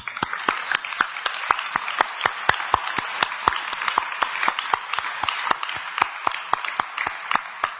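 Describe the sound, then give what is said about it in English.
A crowd applauds steadily to welcome the performers of a Christmas drama about Jesus, with dense overlapping claps and a few sharper, louder ones standing out at a fairly quick, even rhythm throughout. No one speaks over it. “Now let's invite them with a big applause.”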